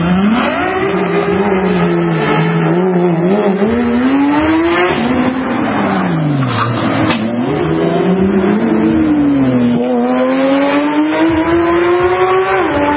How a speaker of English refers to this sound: Recently, these scumbags from Qatar decided to drive their exotic cars at top speeds around a quiet Beverly Hills neighborhood.